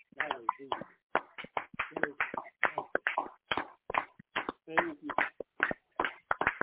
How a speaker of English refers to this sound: Let us give our Father a hand clap of praise for his goodness and his mercy and his salvation.